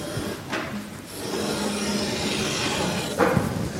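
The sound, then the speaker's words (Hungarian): A stick of chalk snaps with a sharp, brittle crack during a geometry lesson, followed by a few faint clicks as the pieces roll across a hard surface, over steady background hiss. “Hopp, egy krétát már is összetörtem.”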